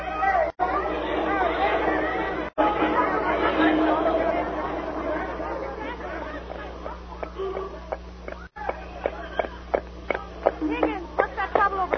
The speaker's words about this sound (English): Crowd seems to be chasing somebody.